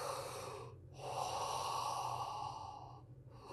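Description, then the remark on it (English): Deep, noisy belly breaths in a Darth Vader breathing technique, drawn through a nose blocked by an infection, with a long rasping inhale, a brief pause, then another heavy breath, fairly loud with no talking. “So the belly coming in and out, like a Kung Fu Panda, and the noise, so you know you're breathing and opening up your air passage, Darth Vader.”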